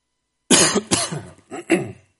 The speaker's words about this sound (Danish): Er det meget højt, når jeg hoster? Ej, okay. Så hoster jeg lige igen.